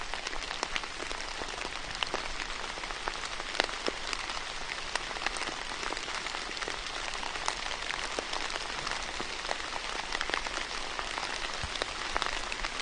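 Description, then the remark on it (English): Steady, soaking overnight rain patters continuously, a dense hiss of countless drops with brief sharper taps standing out, even in level, with no voices. “It's a different feeling getting up at that time, but it is great to be here this day, and I'm sure last night, if you're gardeners, you would have enjoyed just that pitter-patter of that constant soaking rain.”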